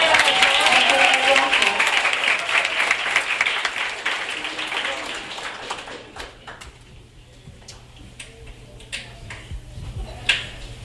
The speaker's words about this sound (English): It's getting to the end of the show, and I think we should all give a round of applause to our sound guy, Mr. Johnny.